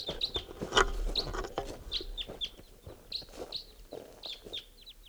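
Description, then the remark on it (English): Wild red crossbill type 2 flight calls as the birds come in, at 5:21: a run of short, sharp, high 'kip' notes repeated irregularly over about five seconds, moderately loud above a busy, low background murmur with no talking. “I hear wild type 2s coming in.”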